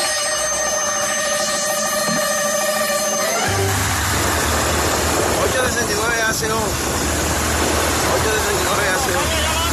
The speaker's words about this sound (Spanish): Es una moto de la policía persiguiendo un mototaxi.